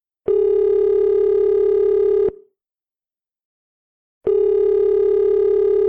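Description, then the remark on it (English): A phone line rings out on the caller's end, a call made on a borrowed phone to a band friend: a steady, buzzy electronic ringback tone lasting about two seconds, a two-second pause, then the tone starting again, clear with no voices. “Here, you can use my phone. Oh, thank you kindly. Hopefully they'll answer.”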